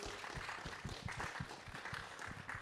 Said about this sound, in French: Exactement, et qu'on peut d'ailleurs accueillir ici en plateau radio et l'applaudir également, yes, s'il vous plaît.